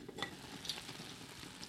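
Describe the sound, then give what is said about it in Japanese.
A pot lid is lifted off vegetables steam-simmered over low heat with water, sake and a little salt for about 10 to 15 minutes, with a couple of light metallic clinks over a steady, soft hiss and bubbling. Quiet, with no voices. “じゃあ蓋を開けてみます。”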